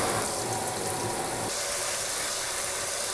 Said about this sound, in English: So I put them in the stainless steel bowl, and I'm just gonna run really hot tap water on them.